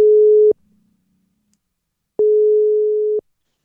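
A telephone ringback tone on an outgoing call to a high school friend: a steady, fairly loud single-pitch beep, a short tail of one tone, then a pause and one full tone about a second long, with no voices.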